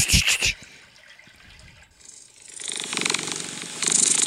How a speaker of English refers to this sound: A cat purring? Yeah.